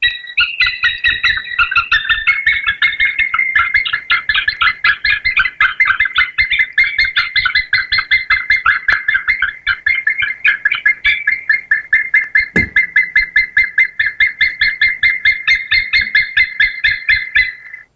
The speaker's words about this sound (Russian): Так, и второе животное, ну, сразу хотим сказать, что это птицы, поэтому давайте тоже слушать и угадывать.